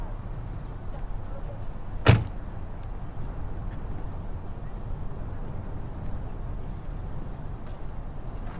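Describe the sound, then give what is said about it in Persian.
A single car door thumps shut once, sharp, as a man gets out of a car, over a steady low rumble of engine or street background; otherwise quiet, with no talking. “از ماشین پیاده میشه.”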